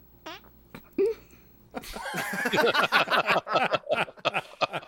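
A recorded album track of fart noises: a couple of isolated squeaky toots, then a dense run of rapid, sputtering fart noises in a bouncy rhythm, fairly loud, with no talking.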